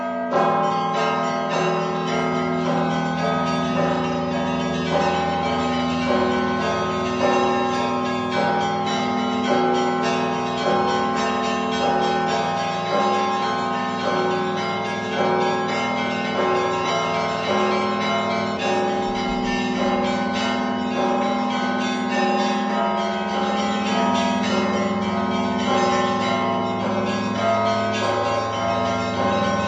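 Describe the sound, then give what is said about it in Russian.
A festive Christmas church bell peal rung by Maksim Lemachka, a student of the Vitebsk school of Orthodox bell ringers: many bells overlapping in a dense, rhythmic clangor with sustained ringing tones, loud throughout with no voices. “Гэта быў святочны перазвон, выкананы вучнем Віцебскай школы праваслаўных званароў Максімам Лемачкам.”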